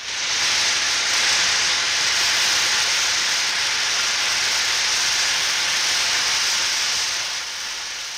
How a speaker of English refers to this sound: Natural steam from the depths of the earth, hot springs, geysers, bubbling mud pools. Evidence of geothermal energy is plentiful enough to suggest that our globe is like a giant pressure cooker.